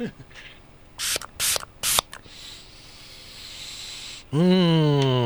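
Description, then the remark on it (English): Three quick, sharp hissing spritzes from a pump throat spray bottle, mint-flavoured, used to soothe vocal cords, bright, followed by a quiet pause and then a voice starting to speak. “And once again, soothe my increasingly stressed vocal cords with a throat spray.”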